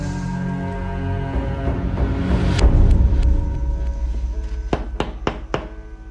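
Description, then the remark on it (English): Four firm knocks on a door in quick, slightly uneven succession near the end, as a man knocks on a woman's door, cutting through a steady bed of background music, with a couple of fainter thumps earlier on. “Stefan knocks on Caroline's door.”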